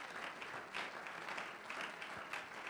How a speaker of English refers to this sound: We clap and shout unto God because in the Bible we read, oh, clap your hands, all ye people, and shout unto God with the voice of triumph. Can we pause for a moment and clap our hands unto the Lord? Hallelujah.